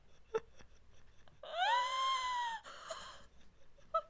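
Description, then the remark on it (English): A voice imitates gasping: one strained, wheezy, drawn-out vocal breath lasting about a second, then a shorter raspy trailing breath, with a few faint clicks around it. “He was also married twice, courting his second wife between gasps, and fathered 8 children.”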